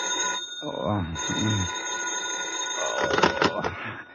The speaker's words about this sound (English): It's almost noon when the phone wakes you.